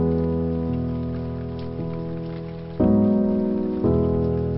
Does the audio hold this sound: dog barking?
no